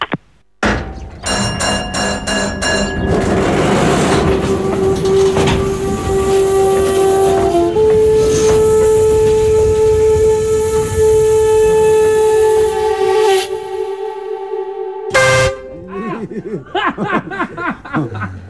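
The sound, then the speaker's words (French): A loud, sustained horn blast blares over rumbling train noise in China, holding steady for several seconds with a pitch shift midway before cutting off, followed by brief voices. “Tu prends un gros klaxon dans la face.”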